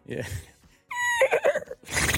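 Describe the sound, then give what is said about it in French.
A person imitates a horse's whinny, a high, wavering, nasal neigh lasting about a second that trembles and drops in pitch, with brief vocal sounds before and a breathy burst after. “Moi, je sais faire du cheval.”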